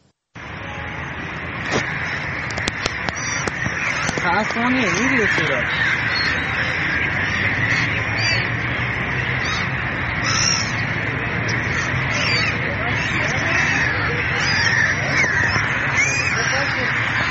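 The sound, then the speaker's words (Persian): A dense chorus of crows cawing over and over, many birds calling at once as they fly over the dried-up Zayandeh River in Isfahan, Iran, loud, with a steady outdoor background hum throughout. “باز هم ویدئویی از خشکی زاینده رود اصفهان در این فصل سال و پرندگانی که بر فراز رود خشک پرواز میکنن.”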